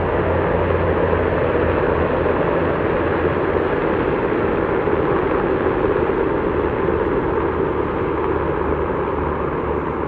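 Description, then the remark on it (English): A steady, loud roar of a line of helicopters flying overhead, with a deep low rumble underneath that holds constant the whole time. No one speaks. “motherfuckers are ruining the audio. Dude, they got a line of choppers, bro.”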